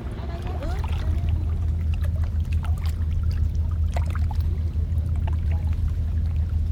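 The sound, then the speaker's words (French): Gentle water of a calm sea laps and splashes softly around a boat over a steady low rumble, with scattered small drips and knocks and faint voices in the background. “Bon, la mer est calme en tout cas.”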